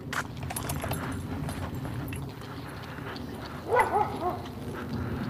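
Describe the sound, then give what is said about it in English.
A dog off to the side lets out a short cluster of two or three barks partway through, during a morning dog walk, over a steady, busy background of rustling and clattering noise. “There's a dog off on the side that's having a part of the conversation.”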